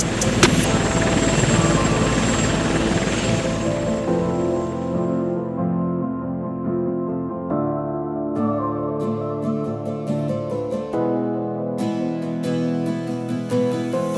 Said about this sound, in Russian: Улетает грузом 200 с Украины на Россию вертолет.